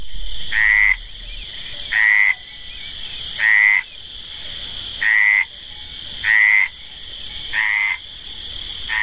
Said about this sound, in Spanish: Cuando hemos empezado, se ha escuchado el ambiente de una dehesa con el sonido de las ranas meridionales. Vamos a escuchar antes de nada, Luis, ese sonido de la meridional, más de cerca.